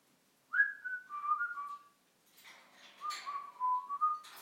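A parrot whistles two short melodic phrases, clear mid-high tones sliding slightly downward, with a brief pause between them and some scratchy rustling noise during the second phrase.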